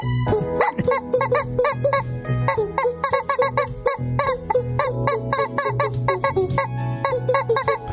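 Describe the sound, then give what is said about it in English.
Rubber chicken toys, squeezed by several people playing along together, honk over and over in quick, rhythmic bursts. Their loud, squeaky pitched squawks rise and fall as if playing a tune, with a low steady hum underneath. “Yeah, you need a baritone chicken. Try to play along with him.”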